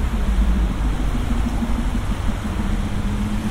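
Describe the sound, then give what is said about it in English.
Steady, loud engine rumble from vehicles on a busy high street, a continuous low drone with idling motors and passing traffic filling the street, no voices heard. “I wasn't expecting it to be so loud, but there's a lot of traffic.”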